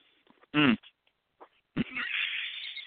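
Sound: cat snoring loudly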